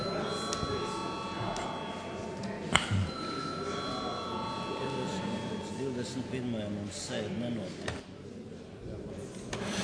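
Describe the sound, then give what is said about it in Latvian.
A parliament chamber bell rings before a vote on a bill in its second and final reading, as a steady, high, bright tone held for several seconds before fading, with a low murmur of voices and faint clicks and knocks underneath. “Lūdzu zvanu.”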